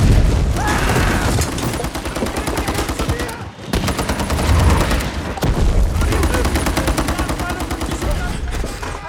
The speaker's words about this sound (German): weil so viele Explosionen in dem Film sind, wahnsinnig viel lautes Kampfgeschehen.